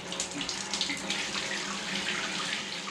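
Water pours steadily from a tap into a bath for a cold bath, a continuous splashing hiss that stays even and fairly loud for the whole stretch, with no voices.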